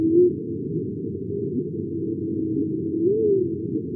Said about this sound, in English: The oceans have their natural noise, and that's what we would hear. And here's one of those sounds, the songs of the humpback whale.